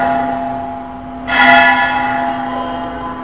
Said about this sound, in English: Very nice bell, very good bell. It's because this bell is mixed up with the sound of Rasabihari's flute.